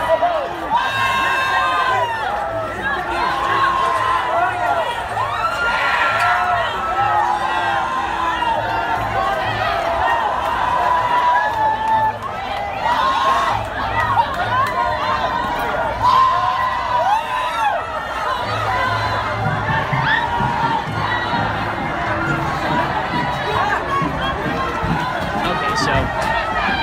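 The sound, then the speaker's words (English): A large crowd of protesters, some holding Mexican flags, storming barricades at a Trump rally: many voices shouting and yelling over one another, loud, with constant chaotic commotion and occasional whoops lasting throughout. “Bunch of protesters holding Mexican flags storming the barricades that are supposed to protect the people going to this Trump rally”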